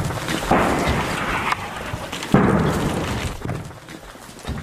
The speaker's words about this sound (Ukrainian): У повній темряві видно лише спалахи. За кілька секунд чути вибух.